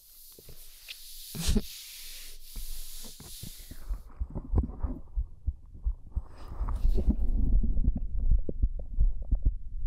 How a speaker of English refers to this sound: See, you can hear my heartbeat while you fall asleep.